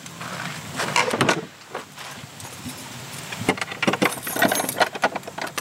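Keys jangle and clink in bursts of bright metallic rattling, with a few thuds and scrapes as a lock is worked, heard alone without talk.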